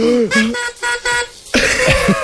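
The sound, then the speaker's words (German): A party horn is blown: several short honking toots in a row, then a longer, raspier, wavering blast, loud and with nobody talking over it. “Ich puste mal kurz in die Tröte nochmal rein.”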